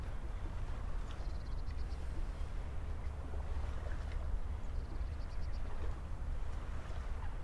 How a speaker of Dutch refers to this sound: Het geluid van het water toestaan in je ruimte en in je lichaam.